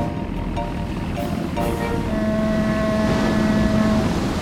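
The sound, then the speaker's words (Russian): The engine of the steamship Kunashir, built in the early 20th century, rumbles steadily with a droning mechanical hum that thickens partway through, over a constant wash of water noise, as the ship weighs anchor and gets under way at sea. “Это ж пароход.”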